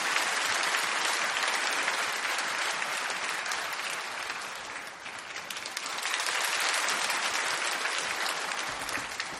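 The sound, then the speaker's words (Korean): An audience at a Sunday church service applauds steadily for several seconds, giving thanks to God as it welcomes the visiting pastor, a dense wash of many hands clapping that dips slightly midway, then swells back to full strength, with no one speaking over it. “귀한 목사님 보내주신 하나님께 감사의 박수 올려드리며 목사님 맞이하겠습니다.”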